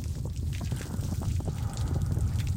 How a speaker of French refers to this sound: Ça n'est pas du feu. Regardez, c'est de l'eau. De l'eau qui va remplir la cave pour noyer la poudre. L'eau du lac s'infiltre partout, à grande vitesse.